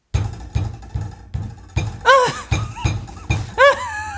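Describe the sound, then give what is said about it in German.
A voice imitates sex noises heard from a neighbor upstairs: a steady, rhythmic low thumping, about two beats per second, broken by two loud, drawn-out moans that swoop up and down in pitch. “Und jetzt muss ich mir anhören, wie sie da oben von einem Typen flachgelegt wird.”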